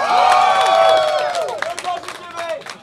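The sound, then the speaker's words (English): A crowd cheers and whoops loudly for The Command Zone, many voices rising and falling in overlapping shouts, while a dense patter of clapping runs through the whole burst of applause. “Round of applause for The Command Zone right now.”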